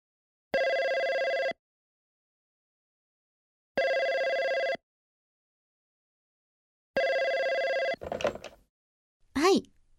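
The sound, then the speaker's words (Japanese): A telephone rings three times in steady, evenly spaced bursts, loud; it is a call from the speaker's company, and after the third ring a voice begins to speak briefly. “それが打ち破られたのは会社からの電話です。”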